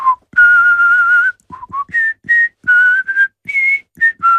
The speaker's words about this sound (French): Je vais vous siffler l'ouverture de Rienzi, donc je me ridiculise, mais c'est pour rire.